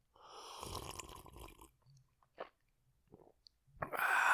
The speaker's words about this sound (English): My special guest is a small sip of whiskey. Here's some input from my special guest.